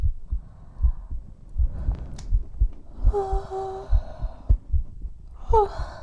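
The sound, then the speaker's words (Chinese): Soft snoring with a faint whistling tone, one long snore followed by a shorter one, over a steady rhythm of low, muffled thumping pulses. “不知道为什么，听着你打呼噜。”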